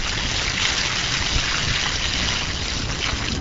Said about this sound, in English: On a sunny day, developer Gauri Rodman and Milwaukee Mayor Tom Barrett demonstrated by pouring buckets of water onto the brick and watching the water disappear.